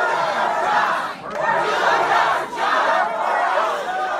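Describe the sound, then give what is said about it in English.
A large protest crowd at a town hall for Republican Senator Joni Ernst in rural Iowa chants "Do your job" loudly in unison, a dense roar of many voices rising and falling in a repeated rhythmic phrase, with brief dips between repetitions. “crowds chanting, "Do your job."”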